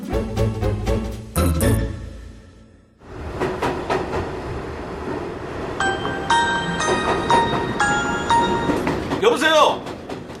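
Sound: subway train riding ambience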